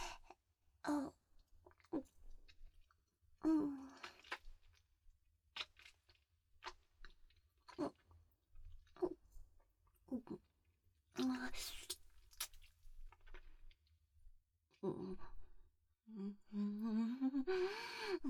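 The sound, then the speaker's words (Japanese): Wet open-mouthed chewing with irregular smacking bursts and short pauses, loud and intimate, joined by breathy vocal sounds and a drawn-out moan toward the end. “くっせーチンカンステーキでくちゃくちゃお下品に咀嚼するのやばすぎ。”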